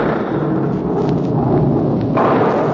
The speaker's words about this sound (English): There. Hear it? You think that's thunder? Any old-timer in the Catskill country will tell you that it's Henrik Hudson and his crew at a game of ninepins.